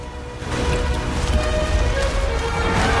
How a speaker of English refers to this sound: At the dry and dusty watering hole, the animals are lying on the ground, weak with thirst, when a thunderous sound attracts their attention. They stand up and watch the water flowing down a channel towards them.